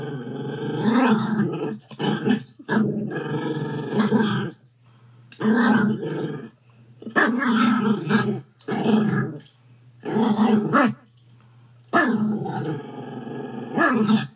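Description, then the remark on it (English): A small Yorkie growls and barks in a string of about seven rough, snarling bursts separated by brief pauses, loud and fairly high-pitched, with no one talking. “That's apparently Yorkie for "Can I talk to the manager?"”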